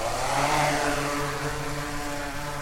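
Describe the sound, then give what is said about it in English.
A drone preloaded with a flight path by the UConn team lifts off over apple crops and climbs to about 160 feet, with a loud, steady buzzing whine of stacked humming tones over a rushing, breathy roar that swells briefly at the start, then holds even. No voices. “The drone shoots skyward, flying at about 160 feet.”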